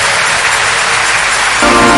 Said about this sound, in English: The rest of us, let's give the Lord a big round of applause for the first fruit of this Congress.